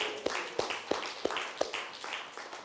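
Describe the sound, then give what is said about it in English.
A crowd applauds with a steady wash of clapping, while a few sharp, evenly spaced claps stand out above it at a brisk rhythm. No one speaks. “Give him a clap, folks.”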